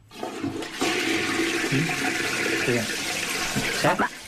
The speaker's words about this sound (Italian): Dai, ma no, sentiamo è lo sciacquone. Ecco, è il mare. Non è lo sciacquone, è il mare.